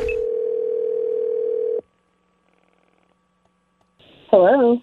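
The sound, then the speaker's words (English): A steady, loud telephone dial tone hums for almost two seconds as someone calls to apply for a nanny job, then cuts off into near silence before a brief electronic tone and a voice start at the very end. “So I'm going to call up and I'm going to apply for the job.”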